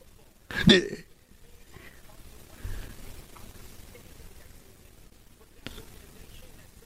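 A single short, loud belch, thought to come from Jeff Saturday, bursts out near the start, followed by several seconds of low, muffled background noise and a brief fainter sound toward the end.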